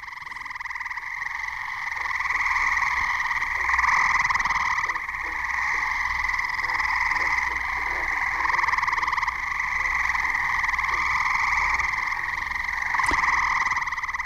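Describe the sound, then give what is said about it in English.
A dense chorus of gray tree frogs trills continuously, many overlapping calls blending into a steady, loud wall of sound with faint lower chirps beneath throughout. “That's a chorus of gray tree frogs.”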